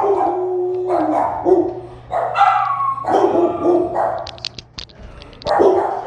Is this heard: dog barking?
yes